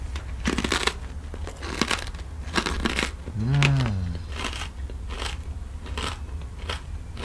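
Crisp crunching of Muttukttuk potato chips in a series of irregular bursts, with crackly rustling between bites and a brief hummed vocal sound partway through.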